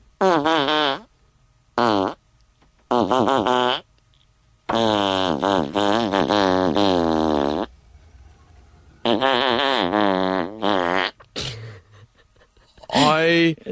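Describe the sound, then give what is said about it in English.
A string of loud, buzzy farts pitched up and down to carry the tune of a song, with short notes and long held ones separated by brief pauses. “You're about to hear a fart. Do you know what song the fart is in the tune to?”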